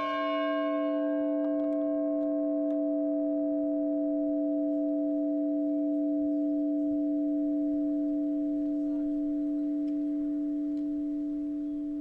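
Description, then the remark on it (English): A single strike of the large bell in the bell tower on the lawn of an old college schoolhouse rings out loudly, its bright overtones fading quickly while a deep, steady hum lingers and slowly decays over several seconds, with no voices present. “As with many old school houses, the bell tower on the lawn is a symbol for the town.”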